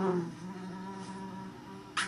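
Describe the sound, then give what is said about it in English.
A bee in a video game buzzes in a steady, droning hum that holds for about two seconds, ending with a brief brighter burst of noise. “Take that, you crazy bee!”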